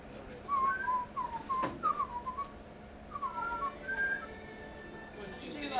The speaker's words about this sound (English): Why can't women whistle? I don't know. I can sometimes. It's meant to be said to do their lip structure or something.